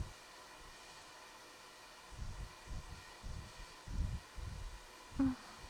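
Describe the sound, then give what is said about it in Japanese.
A hair dryer is switched on and aimed at a person's head. It blows with a steady, even rush of airy noise throughout, joined midway by a series of soft, low muffled bumps or rustles. “どう？熱くない？ドライヤーでも火傷するみたいだから、熱かったらすぐに行って。”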